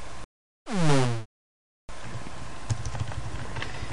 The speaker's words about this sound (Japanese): 反省会です。キーボード打ちながらちょっとやります。